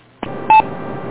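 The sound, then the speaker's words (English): A short keypad-style electronic tone from the KDTAIT EchoLink repeater chirps once over steady radio static, just after a faint click as a key is tapped at station KA3TFB. No one speaks. “We just tapped a key down here to make it.”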